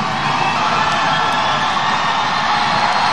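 A large concert crowd screams and cheers for more, a dense, loud wall of shouting and whooping that holds steady for a few seconds with no break.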